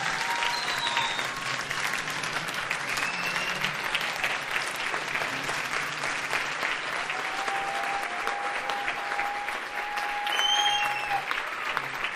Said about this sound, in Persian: مرسی، تشویقش کنید. قشنگ تشویق کنین ها.